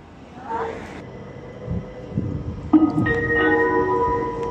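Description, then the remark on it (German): An Interregio 13 train pulls into platform 2 of a railway station, bound for Winterthur, Zürich Airport and Zürich main station, with rumbling and a rising metallic whine as it arrives, steady, amid platform ambience and faint background voices. “Gleis 2, Einfahrt des Interregio 13 nach Winterthur, Zürich Flughafen, Zürich Hauptbahnhof.”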